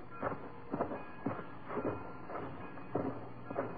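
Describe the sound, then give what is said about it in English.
A freight train rolls along with a steady, rhythmic clatter of wheels over rail joints, heavy thumps repeating about twice a second over a low rumble, with no voices. “From a reluctant customs official, we got permission to hold the train for examination.”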